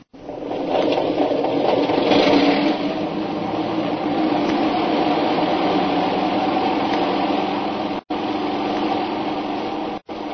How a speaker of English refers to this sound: Wait a minute. There comes a plane in now. We can't take off.